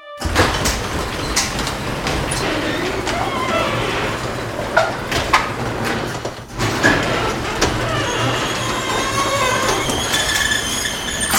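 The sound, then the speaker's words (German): A core drill bores steadily through concrete to break into a bank, a continuous harsh, gritty drone with a low hum underneath and scattered scraping clicks, briefly dipping near the middle before resuming at full strength. “Das ist eine Kernbohrmaschine, Kernbohrer, die durch Beton durchgeht.”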